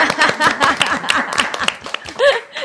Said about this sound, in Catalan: No m'aplaudiu a mi, també? Una mica d'aplaudiment. Ara, ara.